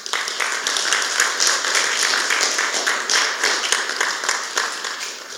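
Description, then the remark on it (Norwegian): A burst of dense applause from a group for the woman running the graphics, many hands clapping steadily for several seconds at an even loudness with no voices on top. “Så må jeg gi en skikkelig applaus.”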